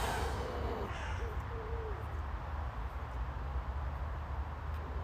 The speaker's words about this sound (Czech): Evo je ta vrana čuvena.